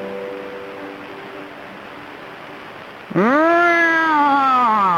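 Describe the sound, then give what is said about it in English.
During a Chinese language lesson, after three seconds of low steady hiss, a person breaks into a loud, sustained voiced whine that swoops upward and then holds a bright, buzzing pitch, imitating an airplane. “You know, it's proven that making airplane noises doesn't help you learn languages.”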